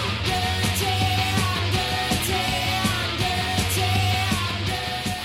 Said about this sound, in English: They kind of combine this like dark industrial, post-punk, deadpanning, sternum shaking bass.